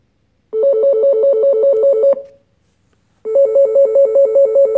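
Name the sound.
telephone ringing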